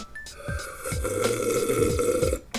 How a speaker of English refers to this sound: This is tea time. Let's get out the tea here and take a big sip.